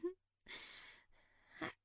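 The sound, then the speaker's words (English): Heavy breathing: a long, rushing exhale followed by a softer drawn-in breath, framed by brief voiced sounds at the start and end. “I sound like I'm breathing hard?”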